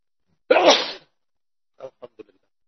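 One loud, forceful sneeze bursts out, followed by a few soft, quick sniffs or breaths trailing off into quiet.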